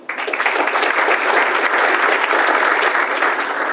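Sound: loud audience applause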